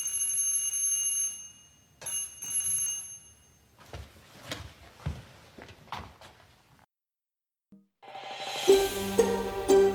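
A bright electric doorbell rings in two short bursts, then a few clicks and knocks, a brief silence, and a louder, sustained jangling ring to the end, with no voices.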